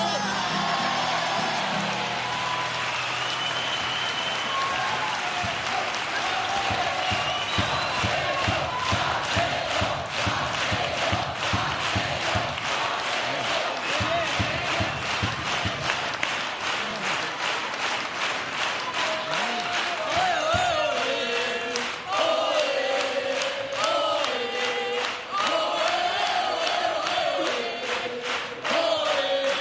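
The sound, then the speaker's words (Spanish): A carnival theatre audience, standing in the stalls of the Falla, chants "oe" loudly in unison over steady rhythmic clapping for a carnival quartet. The voices swell into a sustained sung cheer, with applause and whoops filling the theatre throughout. “Pues al grito de oe, oe, oe, con el patio de butacas puesto en pie, el Falla le da un cálido abrazo a este cuarteto inclusivo”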